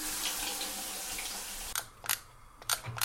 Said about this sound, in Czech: Naplněné sklenice máme v zavařovacím hrnci ve dvou řadách. A teď do něj musíme napustit vodu.